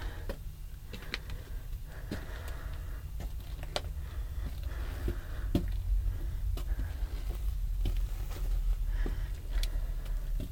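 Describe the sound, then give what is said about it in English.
Water drips irregularly in a partly mapped cave tunnel passage with tree roots, sharp little plinks landing every second or so, some louder and some fainter, over a steady low rumbling background. “See the tree roots? Water drops.”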